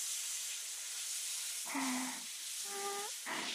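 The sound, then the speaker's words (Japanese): Warm shower water sprays in a steady, loud hiss throughout, rinsing someone before a shampoo, and in the second half a voice speaks in short bursts over the rushing spray. “シャワーとシャラシャワー、濡れたワンちゃんみたいにしっとりしたしと。”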